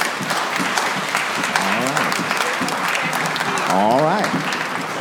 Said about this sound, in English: Simon says, clap your hand.